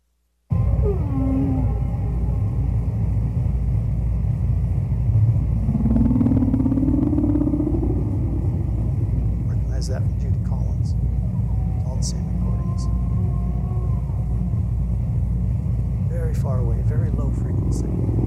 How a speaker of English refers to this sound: Now, this is Roger Payne. Remember I was telling you who did the recordings, put out the album 50 years ago, of humpback whales from extremely far away, low frequency, perhaps as far as 1,500 miles away.